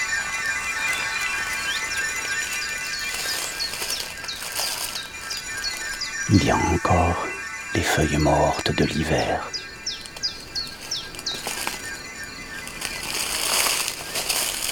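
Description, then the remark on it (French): Woodland ambience filled with steady, high-pitched birdsong: repeated chirps and trills run throughout, while a voice speaks briefly in the middle over the calls. “Puisque nous sommes rentrés dans un bois.”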